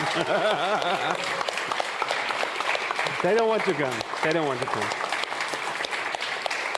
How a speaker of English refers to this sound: So this applause, these are applauses for you. This applause is for you. Thank you for your support.